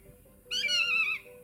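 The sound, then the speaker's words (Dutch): A single plaintive, mewing call of a common buzzard, drawn out for under a second and gently falling in pitch, standing out clearly over a faint steady hum. “Nou ja, zo klinkt de buizerd.”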